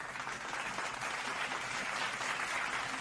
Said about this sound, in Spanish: Me encantan los aplausos.